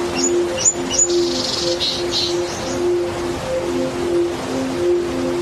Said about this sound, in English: Imagine for a moment that you're in the wilds of Southern Africa. You'd expect to hear birds, maybe the sound of a steady flowing river, and a breeze rustling the leaves of a bush willow growing along its banks.